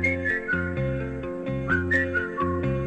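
A bright whistled melody rises and falls in short phrases over a steady instrumental backing, clear with no voices.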